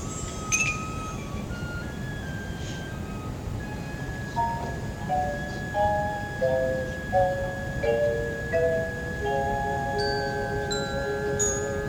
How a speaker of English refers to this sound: Good. Good touch with the concert bells there. I like the way we changed that around a little bit.